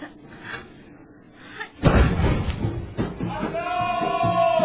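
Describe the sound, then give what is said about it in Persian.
A mortar round is dropped slantwise into the tube by an inexperienced woman and fires with a single heavy boom, followed by a noisy stir of people and raised voices. “حالا گلوله رو اوریب بندازش داخل لوله.”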